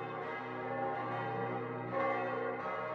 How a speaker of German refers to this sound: Thomas Manns Roman »Der Erwählte« beginnt mit den Zeilen: Glockenschall, Glockenschwall, supra urbem, über der ganzen Stadt, in ihren von Klang überfüllten Lüften. Glocken, Glocken, sie schwingen und schaukeln, wogen und wiegen.